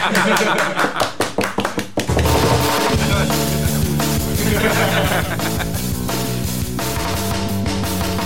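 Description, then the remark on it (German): About two seconds of rhythmic hand clapping by listeners applauding themselves, roughly eight sharp, evenly spaced claps, before loud, dense rock music of the Neckar Ultra Rock show on Freies Radio für Stuttgart takes over and runs to the end. “Wie soll schon so sein, wenn ihr nicht selber für euch selber klatscht?”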